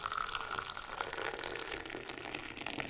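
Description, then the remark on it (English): Tea, a strong English breakfast blend with tea leaves from India and an Earl Grey with bergamot oil from Italy, pours steadily into cups, a continuous trickling and splashing sound that holds for a few seconds without pause, with no voices present. “Bella poured us cups of their strong English breakfast blended with tea leaves from India and a delicious Earl Grey with genuine bergamot oil from Italy.”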